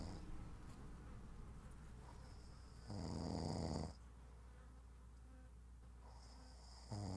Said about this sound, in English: In earlier days, she couldn't bear the sound of snoring. And now she would find that snoring is one of the most comforting things, because it means that her husband is safe, that he's well,